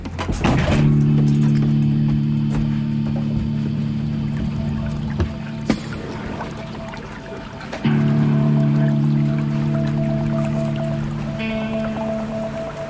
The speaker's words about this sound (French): Alors, il y a un petit ruisseau là en contrebas, juste à côté de moi, encore quelques tas de neige sur le bord de la route. Je suis à Saint-Sernin-du-Bois, à quelques dizaines de kilomètres du Creusot, en Bourgogne.